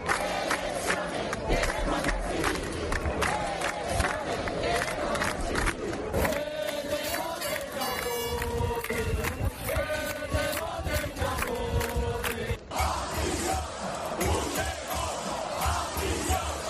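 A large protest crowd outside Partido Socialista (PSOE) headquarters in Las Palmas de Gran Canaria chants loudly and continuously against the investiture agreements between the PSOE and the independentists, voices blending into a dense, rhythmic roar with repeated shouted slogans and bursts of cheering throughout.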